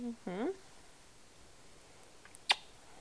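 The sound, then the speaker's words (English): A single crisp, sharp snip of scissors cutting a toenail on a foot, following a brief voiced sound near the start. “Snip! This one's medium sized. Oh, but I don't want to cut off your skin while I'm getting overzealous, huh?”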